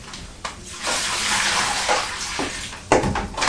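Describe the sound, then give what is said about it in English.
Bathwater draining down a plughole as the bath is emptied, a steady loud rushing gurgle with a few sharper glugs and splashes near the end, with no talking. “Yes, it was a big noise as the water went down the plug hole.”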